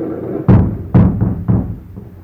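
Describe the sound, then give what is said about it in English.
A helicopter hitting the roof as it lands: three loud, low, booming thuds with a couple of softer knocks between them, landing at an uneven rhythm, with no voices. “Now there's a sudden clatter on the roof.”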